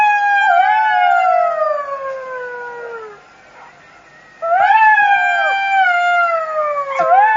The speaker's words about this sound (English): Have you ever heard a jackal howl before? I don't think I had, actually, so I looked it up online, and this is what it sounds like.